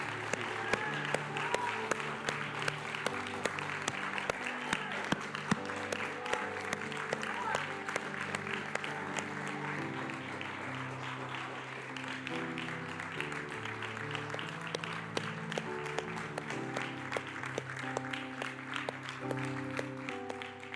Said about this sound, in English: So we're going to have two claps. Okay? So the first one is a thanksgiving to the Lord.